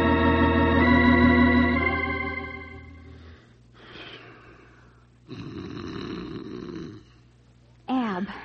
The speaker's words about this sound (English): Roll over. You're snoring.